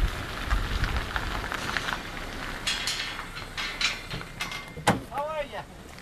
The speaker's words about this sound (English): Okay, well, the wind and rain is coming thick and fast at us here.